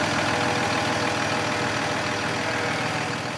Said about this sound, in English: The truck starts up and starts to drive away.